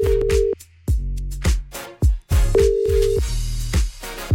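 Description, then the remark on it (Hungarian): A steady telephone ringback tone of an outgoing call placed from the Petőfi Rádió request show (Kívánság műsor) to a listener sounds twice in even bursts, each about half a second, over a loud, punchy music bed with thumping beats. “Most én hívok valakit, de nem erről a számról.”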